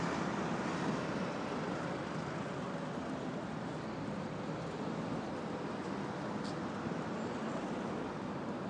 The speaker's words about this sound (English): Also lots of traffic on my left.